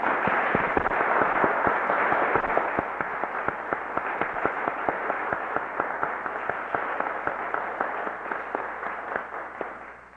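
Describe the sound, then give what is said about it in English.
A symposium audience applauds to thank the four symposium participants, in a dense, steady round of many hands clapping, with sharp individual claps standing out, holding strong for about ten seconds before tapering slightly at the end. “And I believe we should do that with a round of applause.”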